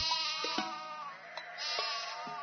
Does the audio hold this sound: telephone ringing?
no